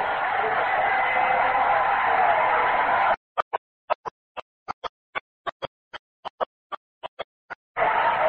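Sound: stadium crowd standing ovation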